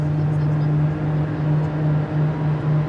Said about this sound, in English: Then you'll hear the engine slowly start to wind up, that turbine sound.